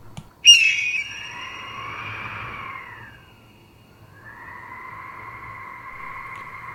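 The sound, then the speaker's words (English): A bird flying high up in the sky squawks in two long, harsh, drawn-out calls: a sudden sharp one that fades out, then after a brief pause another steady call that carries on to the end. No one speaks. “It was quite something to really see this beautiful bird flying so high up in the sky.”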